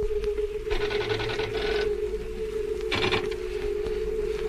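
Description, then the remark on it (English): A steady, deep droning hum on an asteroid, felt as though the floor were reverberating, runs unbroken through the whole stretch, joined twice by short bursts of rattling, mechanical-sounding noise layered over it. No one speaks. “A deep hum. I feel it rather than hear it. As though the floor were reverberating.”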